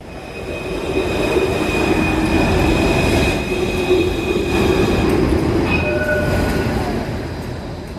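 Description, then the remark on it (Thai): A Melbourne tram or train rumbles steadily along its tracks, loud, with a continuous low roar and thin high-pitched wheel squeals riding on top, easing slightly near the end. “รถห้างรถไฟและรถประจำทางของเมืองเมลเบิร์นช่วยให้หลายล้านคนเดินทางในเมืองที่มีคนอาศัยอยู่หลายล้านในทุกๆมื้อ”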